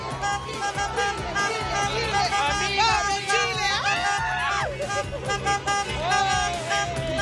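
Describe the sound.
A dense outdoor crowd celebrating at a plaza and roundabout beside the beach resort in Antofagasta, with many voices shouting and whooping at once, while car horns from cars out with flags honk intermittently through the continuous din.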